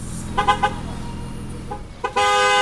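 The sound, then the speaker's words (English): Car horns from a short Caribbean caravan making its way across Boston on a Saturday morning honk in a quick series of short toots, then a longer sustained blast near the end, over a steady low rumble of traffic. “The Saturday morning calm was suddenly pierced by the blasting of car horns as the short Caribbean caravan began making its way across Boston.”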